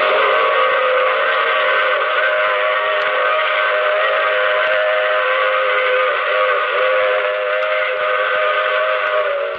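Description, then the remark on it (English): A loud train whistle blows a steady, chord-like wail that holds unbroken for nearly ten seconds, with faint rumbling of the train beneath and no voices. “I take this same train every week at the same time.”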